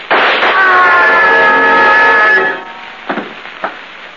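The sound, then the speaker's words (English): Two short, sharp gunshots crack about half a second apart, following a loud burst of noise and a long, sustained wailing tone that fades out just before them. “I'll shoot. Bullets won't stop us.”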